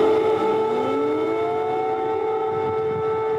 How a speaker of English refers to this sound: His arrival came after air raid sirens blared throughout the Ukrainian capital.